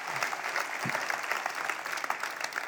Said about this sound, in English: So if somebody's out there clapping by themselves, don't leave them hanging. You might have been zoning and have no clue what I'm saying. That's okay. Just clap anyway, and it'll help you get back engaged. All right, that's better.